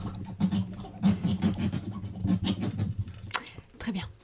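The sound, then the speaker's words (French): A pen scratches across paper in quick, irregular strokes as someone takes notes, each a brief raspy burst, heard over a low background murmur of voices. “Attendez, je note.”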